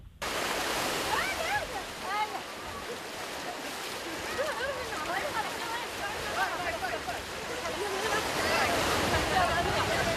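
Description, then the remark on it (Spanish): Children shout and call out playfully on a beach, their high voices scattered and overlapping above a steady, loud wash of surf that fills the whole scene. “De hecho, tenemos el sonido de esos niños jugando en la playa, a ver si se aprecia toda esa felicidad.”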